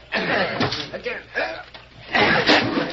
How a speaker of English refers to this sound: 8 or 10 of you push that door in and get to work.